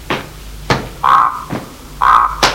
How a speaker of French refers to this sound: La porte s'ouvre.